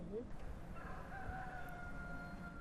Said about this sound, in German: Da kräht der Hahn. Hühner haben Sie auch? Hühner haben wir auch, ja. Freilaufend im Garten, ja. Und einen Hahn dazu.